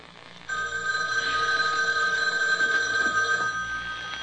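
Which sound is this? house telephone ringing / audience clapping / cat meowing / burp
house telephone ringing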